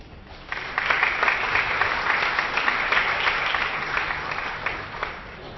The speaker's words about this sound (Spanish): un fuerte aplauso.